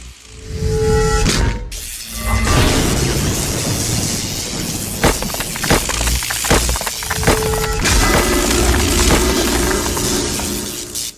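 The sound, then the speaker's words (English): A loud, prolonged glass-shattering effect of a phone screen smashing, with heavy booming crashes and cracking bursts that keep rolling for around ten seconds before cutting off. No one speaks. “Sorry for ruining your phone screen.”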